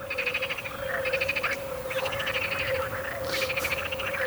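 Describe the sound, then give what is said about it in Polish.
A marsh frog's laughing call: rapid pulsed chuckling bursts repeated several times in quick succession, fairly loud, over a steady background drone with other faint frogs chorusing. “Żaba śmieszka rzeczywiście trochę jakby się śmiała, szyderczo też.”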